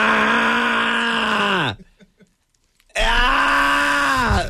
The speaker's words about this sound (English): Stop screaming.